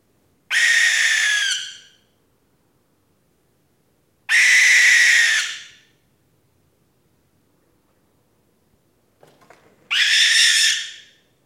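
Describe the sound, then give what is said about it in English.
A barn owl in an old silo at night, against a concrete wall, gives three long, harsh, hissing screeches, loud and spaced several seconds apart in otherwise quiet surroundings, with a faint rustle just before the last call. “There, in the darkness, something moving. A ghostly barn owl cowering against the concrete wall.”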